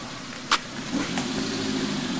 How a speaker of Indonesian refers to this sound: Apa itu mobil?